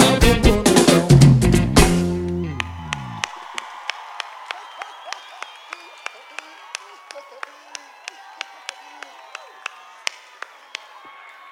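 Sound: audience clapping and cheering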